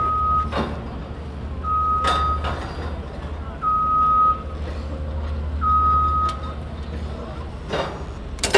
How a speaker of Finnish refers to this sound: Nyt ollaan täällä messukeskuksen parkkipaikalla, jossa nostetaan punaista mopoautoa nostokurjen yläpuolelle. Tämä on tänään jo toinen kerta. Äsken se piti pudottaa tuolta nostokurjesta, mutta ei irronnut auto koukusta.